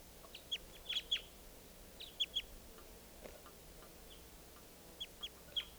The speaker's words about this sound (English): Wild bird very weak.